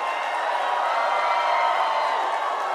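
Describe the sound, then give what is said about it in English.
A large crowd cheers and applauds continuously, welcoming Glenn Beck in Oklahoma, a dense, steady roar of clapping and shouting voices holding at a loud, even level throughout. “So let's give Glenn Beck a really warm Oklahoma welcome.”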